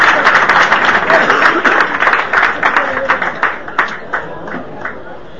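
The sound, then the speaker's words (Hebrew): Audience applause for the announced first-place prize winner: a dense, steady patter of many hands clapping that gradually thins into scattered, separate claps as it fades toward the end. “כפיים רבותיי”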